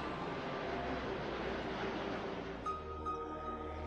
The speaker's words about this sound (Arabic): طائرة نقل تتأهب للانطلاق. مئات الأطنان تنطلق إلى الأجواء بسهولة. إنها ثقيلة جدا لكنها تطير.